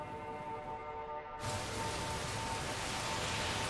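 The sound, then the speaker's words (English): A low tonal hum fades out after about a second and a half, giving way to a steady, dense hiss of rain falling on a city street at night, unbroken to the end with no voices. “On a city street at night, Hasidic men and women step out of the rain into a building.”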